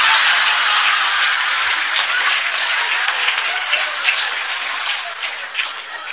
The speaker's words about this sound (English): That's where you applaud.